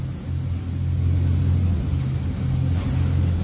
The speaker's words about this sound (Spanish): Es el sonido entre las olas del vídeo compartido en redes por la Corporación de Prácticos de A Coruña, con su lancha navegando a saltos por la costa coruñesa. En ese momento estaban prestando servicio a un carguero que necesitaba atracar en el puerto